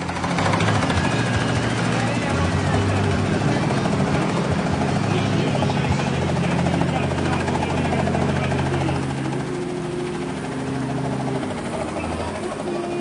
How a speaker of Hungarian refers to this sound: most halljuk a hangot, egy kicsit az én hangom is el fog menni, mert a rotornak a szele mindent el fog süvíteni, de most itt van és látjuk is, a labdát is látjuk, a helikoptert is, és nagyon szépen landolunk, és most hallgatjuk a helikopter hangját.